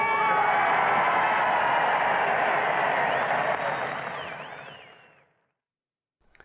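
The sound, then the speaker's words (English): A large crowd cheers Churchill as he appears on a balcony and speaks, a loud, sustained roar with a few high whistles rising near the end before the noise fades quickly into silence. “I think it's sort of spine-tingling, and I love the way that the crowd are actually interacting with him.”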